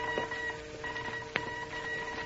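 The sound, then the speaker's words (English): Radio identification call signals from England: steady electronic tones that break off and resume over a constant static hiss, with one sharp click partway through and no voices. “Shh, I hear their identification calls.”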